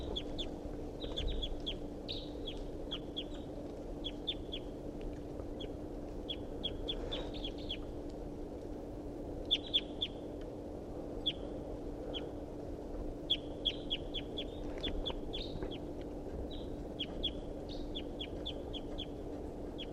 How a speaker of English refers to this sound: Wild bird's calling rather weakly. Wild bird. Stop. Start calling the wild bird.